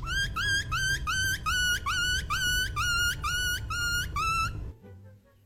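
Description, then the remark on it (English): A person imitates a crying puppy with about ten high, rising whimpers in a quick, steady rhythm over a low rumble, then stops abruptly. “That is a human. Get out! It's a puppy crying. That's what it's supposed to be.”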